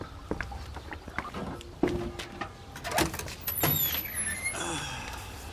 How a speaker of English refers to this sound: Maybe he'll let us in. Knock on the door.